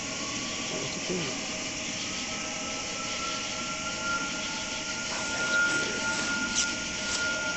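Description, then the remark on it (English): A steady, jet-like engine roar of a manta ray craft, with a high whining hum running through it, holding constant and fairly loud for several seconds without pause. “Oh, that's typical sound of the manta ray. Well, that sounds like a jet.”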